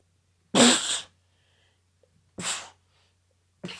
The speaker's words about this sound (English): I have a cold now. I just sneezed. I have a cold. That was 3 sneezes. That means a cold.